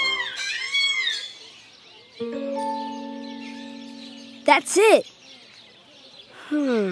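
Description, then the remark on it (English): An African grey parrot gives a series of whistles, including a long steady tone and a couple of sharp, loud rising-and-falling squawks, with brief speech at the end. “This is the African gray parrot.”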